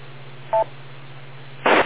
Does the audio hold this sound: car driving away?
no